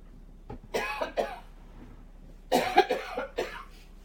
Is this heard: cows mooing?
no